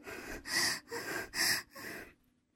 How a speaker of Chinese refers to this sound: 苏静喘息着